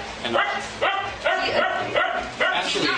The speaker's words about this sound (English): She's just my lovely dog.